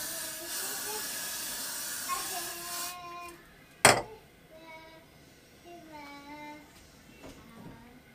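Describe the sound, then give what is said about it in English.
Hair spray hisses in a steady, bright aerosol burst for about three seconds, used with hair glue applied to a freshly cut section of hair, followed by a sharp click and then a person talking. “With some free spray.”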